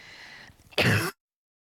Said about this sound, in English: I'm going to cough again. I'm sorry.